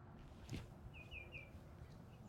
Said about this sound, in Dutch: Hey, groenpoot ruiten hoorde je. Hoorde je dat tju-tju-tju-tju? Ja. Dat was een groenpoot. Hier gaat hij. Kijk heel hoog. Hier, nee, gip. Hier, hoog. Ja. Rechts is groenpoot ruiter. Oh ja, zie je. Je hoort hem ook roepen. Luister.